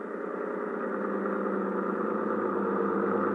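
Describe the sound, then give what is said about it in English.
A motorboat engine drones steadily with a low, buzzing hum, growing slightly louder over a few seconds as the boat comes in, with no voices present. “That boat coming in is probably Ibarra.”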